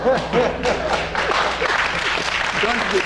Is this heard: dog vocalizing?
no